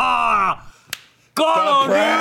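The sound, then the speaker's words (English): A single sharp, crisp slap to someone's face, done as a prank, cracks out in a brief lull, between loud, drawn-out vocal cries and shouts before and after it. “I tried not to hit you hard.”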